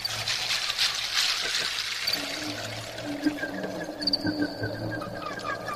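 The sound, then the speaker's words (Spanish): Water trickles and splashes steadily, a bright continuous babble with small bubbling gurgles, no voices present. “Agua pura y cristalina. Agua de mil destellos que salpicas al sol con tu alegría.”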